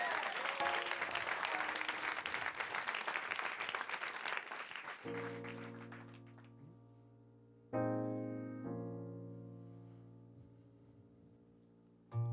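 A studio audience claps loudly and steadily for about five seconds, then the applause cuts off as sustained piano chords ring out and begin a slow song introduction.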